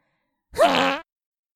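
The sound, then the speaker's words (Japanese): A single loud, buzzy fart lasting about half a second, with a slightly rising then steady tone, let out in a sandbox in front of children, alone with silence on either side. “みんなもおならが出そうになったら、元気いっぱいにおならぶっこくんだよ。”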